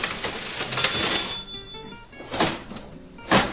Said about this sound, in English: The large metal till at U Salvatora is the kind of contraption one would normally find in a museum, with a handle and keys similar to those on an old typewriter.